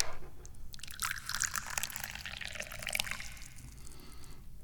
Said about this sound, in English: I am the guy pouring the tea.